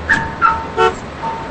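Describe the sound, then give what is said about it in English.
A car's remote lock chirps several times as a man walks away from the car in a motel parking lot and locks the doors, short bright electronic beeps spaced about a beat apart, clear over a quiet background with no one speaking. “He walks away and locks the car doors with the remote.”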